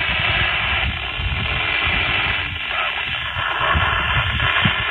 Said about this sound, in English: Sometimes you get a lot of static. I'm not sure if that's solar, if it's just a lot of people talking at the same time, or what.